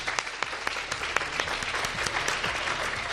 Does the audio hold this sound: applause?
yes